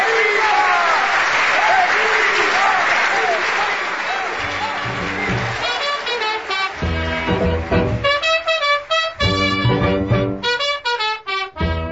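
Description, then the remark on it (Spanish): An audience applauds in a dense, loud wash of clapping and cheering voices for several seconds, then the clapping thins as music with bold sustained notes takes over. “Esa mañana, aún recuerdo, todos los presentes aplaudimos hasta decir basta.”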